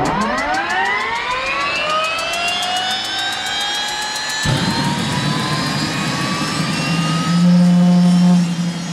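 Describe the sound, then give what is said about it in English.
A turbine engine on a turbine-powered brushed aluminum superbike is started in neutral with the starter held. It spools up from a low whir into a rising, steady whine that climbs in pitch, with a heavier roar kicking in midway and holding loud. “he'd thought about building a turbine-powered motorcycle for years”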